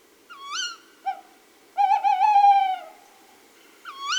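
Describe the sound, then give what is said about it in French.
A male tawny owl hoots clearly: one short hoot, a pause, then a long, quavering, wavering hoot, before the call starts again at the end. “Tu vois, c'est un chant en deux parties. D'abord un « ouh » et puis un silence et « ouh, ouh, ouh, ouh ».”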